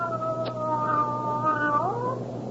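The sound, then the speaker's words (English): A cat lets out one long, drawn-out meow, holding a steady wailing tone before its pitch bends upward near the end, with no one talking. “What makes you think she's a male cat? What makes you think he's a female cat?”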